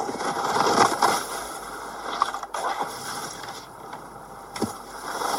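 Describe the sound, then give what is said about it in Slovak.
A skier glides over snow, producing a steady, gritty hiss of skis scraping the surface, with a few sharper swishes and crunches partway through and near the end. No one speaks. “Lyžiar. Áno, správne, lyžovanie.”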